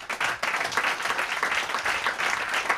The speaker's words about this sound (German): Vielen Dank an das tolle Publikum und natürlich an die Kölner Wohngemeinschaft für die sehr freundliche Gastgeberschaft. Hätte ich auch gerne nochmal einen großen Applaus.